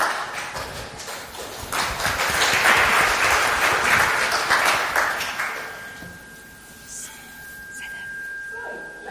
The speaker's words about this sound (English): Give Dawn a round of applause, please.